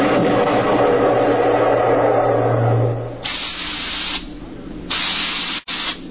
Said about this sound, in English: We could hear the desperate bursts of steam through the steering tubes as the Starfire maneuvered to dodge the enemy attacks.